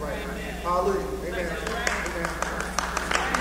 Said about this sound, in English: Okay, that was like a golf clap. You know, a tennis match clap.